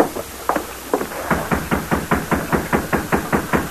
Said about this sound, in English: Riding through vacant lots and alleys, they soon reached the rear of the jail. Oh, steady. They dismounted and knocked on a back door.